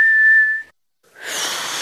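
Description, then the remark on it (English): A person whistles one steady, clear note, stops briefly, then follows with a breathy, hissing blow that barely carries a tone, like a failed whistle attempt. “You're making a funny sound. I'm whistling.”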